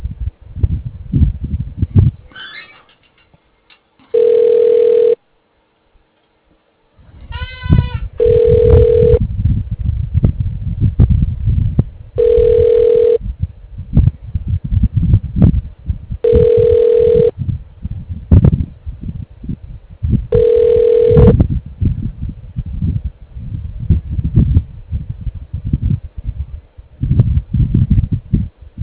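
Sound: telephone ringing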